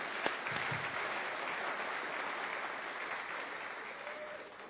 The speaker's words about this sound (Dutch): ik wil eigenlijk een groot applaus voor de jonge kinderen die hier in de kerk zitten. Want we hebben haast geen zondagschool nodig, want ze waren fantastisch aanwezig. Zullen we een applaus geven voor de jongsten?